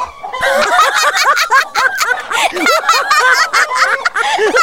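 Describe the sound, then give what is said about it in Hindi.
A busy flock of six hens clucks nonstop, many short rising-and-falling calls overlapping loudly, with no pause for nearly five seconds. “मैं उस मुर्गी के पंख गिनने की कोशिश कर रही हूँ।”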